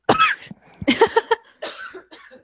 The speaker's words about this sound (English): as she coughs herself into oblivion. She's so touched up and sentimental right now. Well, you know, I have two lungs and apparently I don't need them, so I'm just going to cough them up.